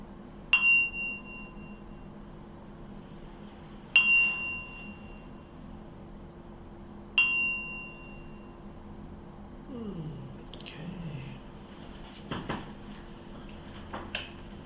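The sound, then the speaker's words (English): A meditation gong is struck three times at the end of a meditation, at a slow, even pace, each bright metallic ring fading before the next. Afterward come faint rustling and a few soft chirps. “So, I'll ring the gong 3 times.”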